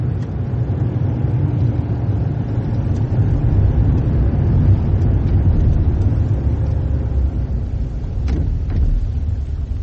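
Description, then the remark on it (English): A car engine rumbles steadily for the whole stretch, with road noise underneath and a brief higher squeak near the end as the car pulls in and stops on Burley Road. “Stop the car. Pull in over there.”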